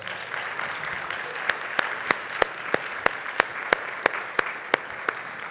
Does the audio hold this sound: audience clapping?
yes